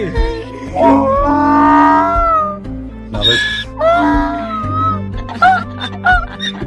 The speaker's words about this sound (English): there's a donkey crying. I mean, you know, you don't hear a donkey cry every day, do you? So the donkey's crying with joy that he's back? Yes, he is.